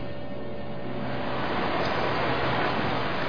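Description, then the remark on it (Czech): A steady, continuous rush of flowing water, fairly loud, swelling slightly midway and holding constant with no voices. “Zní to jako tekoucí voda.”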